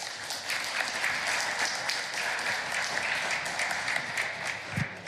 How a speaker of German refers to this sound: Applaus an euch.